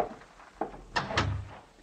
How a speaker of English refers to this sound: Close the door, please.